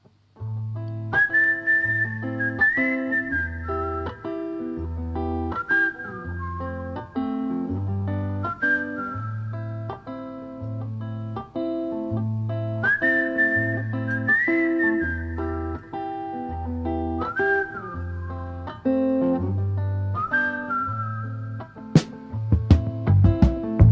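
A song opens with a clear whistled melody carried over a steady, rhythmic bass and accompaniment, the tune rising and repeating in phrases, loud and up front with no singing yet.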